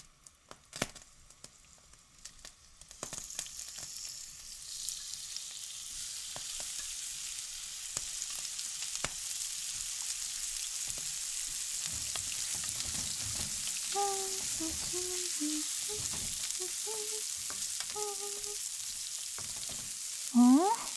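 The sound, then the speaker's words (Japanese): Chicken breast and nuts stir-frying in a pan: a steady, bright sizzle swells after the first few seconds, with scattered clinks and scrapes of a utensil and a few short tonal squeaks near the end. “鶏むね肉のナッツ炒め。普通は鶏もも肉を使うんだけど、鶏むね肉の方が低脂質で高タンパクなの。”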